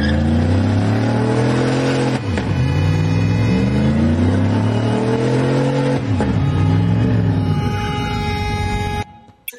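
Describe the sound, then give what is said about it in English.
A pickup truck with a Trump flag on the back revs its engine hard on a rainbow crosswalk in Delray Beach, Florida, its pitch climbing in long surges that briefly drop twice before rising again, then cutting off abruptly at the end. “That's a Trump flag on the back of his pickup truck.”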